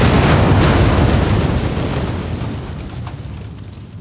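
A loud, deep explosion boom with heavy low-end rumble starts at full force, then slowly decays over several seconds into a fading roar. No voices are heard.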